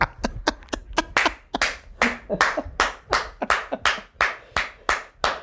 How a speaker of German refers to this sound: Da klatscht übrigens der Ministerpräsident des Landes Brandenburg.